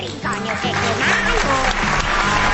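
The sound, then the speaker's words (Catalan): A large audience of a TV quiz show breaks into loud, sustained applause welcoming the day's finalist contestant, filling the whole stretch, dense and steady, with a low musical or vocal tone running beneath the clapping. “Amb un fort aplaudiment, rebem a”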